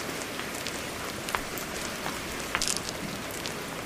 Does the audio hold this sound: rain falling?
yes